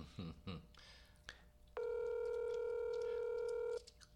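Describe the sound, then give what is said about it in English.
A telephone ringback tone sounds once on an outgoing live phone call made on air, a steady, clear electronic burst of about two seconds, preceded by a few faint handling noises. “Answer the phone.”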